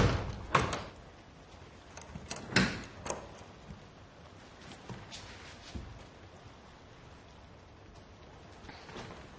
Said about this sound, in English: A wooden door by the cabinets creaks. She goes over and looks around it before closing it.